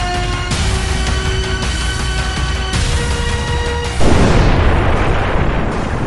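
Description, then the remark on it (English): A Big Bang sound effect: a steady, low droning hum with shimmering tones runs for a few seconds, then a single loud, deep explosion bursts in and rolls on as a roaring, rumbling wash, depicting the great explosion that began the universe about 15 billion years ago. “As we have seen, the universe in which we live came into being about 15 billion years ago with the great explosion, and it went on to expand and take its present form.”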